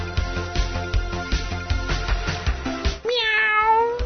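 A rhythmic, beat-driven music loop plays for about three seconds, then cuts to a single drawn-out cat meow, clear, wavering in pitch as it fades.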